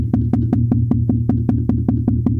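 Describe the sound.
Rapid, evenly spaced taps, about five per second, mimic a sudden racing heartbeat following a normal pulse, over a steady low hum, loud with no talking.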